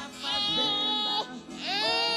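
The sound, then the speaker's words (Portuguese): A man cries emotionally, letting out two drawn-out, quavering wails separated by a brief catch of breath. “É igual menino que eu choro.”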